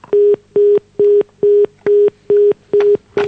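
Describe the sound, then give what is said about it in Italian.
A telephone busy tone after a caller to a live call-in hangs up: a steady run of about eight short, evenly spaced beeps at one pitch, loud on the line, with no voices. “Vabbè, non ha voluto continuare la domanda. Si è sentito in diretta e probabilmente ha voluto mettere giù.”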